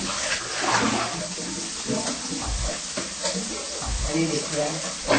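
Salad leaves being washed by hand and rinsed in a basin of water, with continuous sloshing and splashing and occasional heavier plunges, steady throughout.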